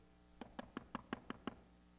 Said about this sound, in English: I wonder if somebody came and knocked the door.